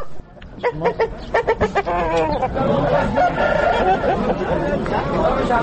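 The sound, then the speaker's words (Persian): A Kalangi-breed rooster crows loudly, with a quick series of sharp, harmonic calls followed by a dense wash of clucking and flock noise that continues to the end. “تربیت مرغ کلنگی در افغانستان سابقه داشته”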